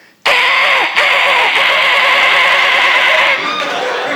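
A voice imitates an engine sputtering and failing to start, as heard in a radio condom commercial: a loud, rough, buzzing tone that wavers in pitch, with a few brief catches, running steadily for about three seconds before easing off.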